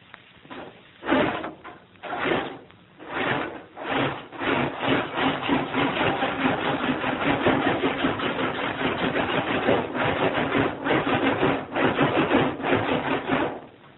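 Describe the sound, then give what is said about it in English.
A roller skate run up and down over the rivets of a zinc bath, once used as a train sound effect, makes a rattling, clattering run, starting as separate thumping bursts and speeding into a steady rumbling clatter like a train on rails. No one speaks. “By running a roller skate up and down over the rivets, so like this.”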